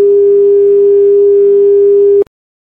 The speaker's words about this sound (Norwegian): Tal tydeligt efter tonen, så sørger vi for, at din leder får besked med det samme.